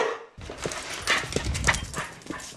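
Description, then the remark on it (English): An excited dog barks and yips in short, rapid bursts, with quick scuffling or pattering sounds mixed in throughout a couple of seconds. “No matter how long you've been gone or how late you come home, your dog is happy to see you.”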